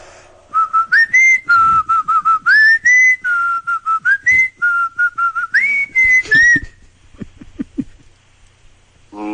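A person whistles a lively, choppy melody of short repeated notes with occasional upward slides, clear for about six seconds, as a song for listeners to identify, then a few soft taps and quiet rustling follow.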